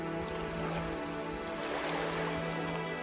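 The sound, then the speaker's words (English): Water laps steadily against a shore of the Gili Islands off Lombok, Indonesia, a continuous soft wash with no distinct breaks, carried over a low, constant hum in the background. No one speaks. “The only sounds are bicycle bells, horse cart wheels, and waves lapping against pristine shores.”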